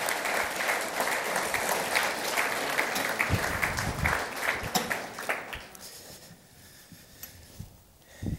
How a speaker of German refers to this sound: Gebt ihnen doch einen herzlichen Applaus.